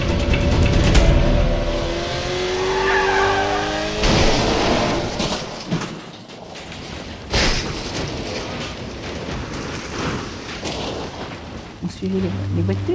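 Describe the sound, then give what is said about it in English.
Loud race car engines roar past at high speed during the 1955 24 Hours of Le Mans endurance race in Le Mans, France, with rising and falling whines, one pass after another, over a continuous wash of crowd noise from fans packing the stands near the pits and indistinct voices. “Fans pack the stands near the racing pits as their favorite drivers race by at astonishing speeds.”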